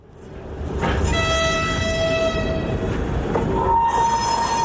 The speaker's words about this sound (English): Near Russia's border with Ukraine, the goods trains create an air of normality.